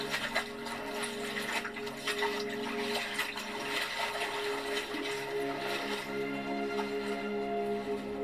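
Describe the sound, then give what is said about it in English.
Continuous water splashing and sloshing of someone swimming toward an island, steady for the whole stretch, with a low droning hum underneath and no voices. “Ygritte turns and starts swimming to the nearby island. Ah, this water is so fucking wet.”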